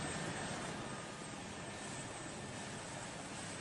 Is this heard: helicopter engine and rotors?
yes